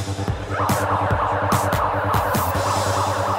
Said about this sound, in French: Nos étudiants sont prêts ? Nous allons pouvoir déclencher l'alarme.